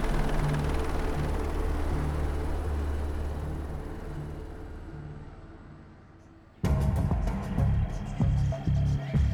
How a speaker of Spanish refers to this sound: ¿Qué es eso? ¿Helicópteros? Están aterrizando en la playa. Estamos rodeadas.